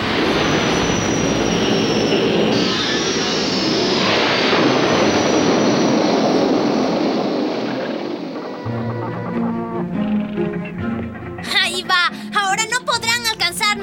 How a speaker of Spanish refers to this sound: ¡Dale máxima potencia a los motores de Nipa!